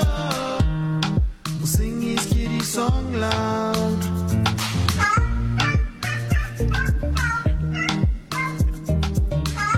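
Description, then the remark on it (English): Repeated cat meows, loud, come in a quick, busy series over a bright, percussive musical backing, with no one speaking. “Kitty caught a mouse.”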